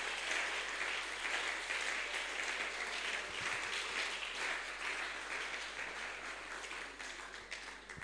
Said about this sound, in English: Oh, clap. Yeah, today you are not clapping. Clap louder. I don't like the clap. If I were God, I won't accept this.